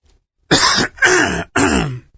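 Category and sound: human body sound, throat clearing and coughing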